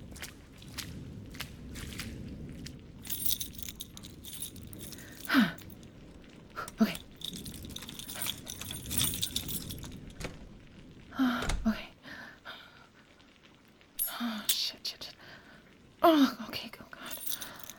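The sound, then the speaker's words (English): Keys jingle and scrape in short, irregular bursts, with sharper metallic clicks now and then, as someone fumbles a key against a lock. Faint breathy sounds come between. “I can't get the key in the fucking lock.”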